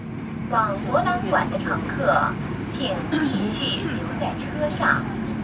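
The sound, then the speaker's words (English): A steady low rumble fills the inside of a moving passenger train headed to Hong Kong International Airport, with indistinct voices talking in the carriage, which is filled with protesters, over the constant hum. “So I hopped on the train and headed out there.”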